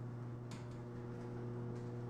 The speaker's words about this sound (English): The garage door going up.